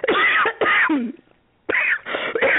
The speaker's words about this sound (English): Oh, I'm sorry. I have a cough. I'm sorry.